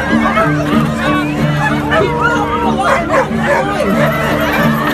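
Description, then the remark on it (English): A crowd of dogs barks, whines and yelps all at once in reaction to music made for dogs, over a steady low droning tone, the noisy chorus continuous and loud for the whole stretch. “like they were like high-pitched tones and low-pitched tones that only dogs can hear.”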